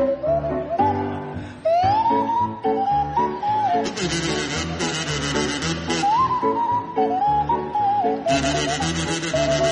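Barry Cryer on a buzzing kazoo and Graham Garden on a sliding Swanee whistle play a jaunty tune together over a full musical backing. The whistle's pitch glides up and down between phrases, loud throughout.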